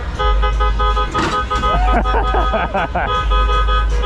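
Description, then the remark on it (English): Busy, stuck traffic on a jammed one-way street with a steady low engine rumble, sustained car horn tones and honking, plus voices talking briefly in the middle of the din. “There's even more traffic this way.”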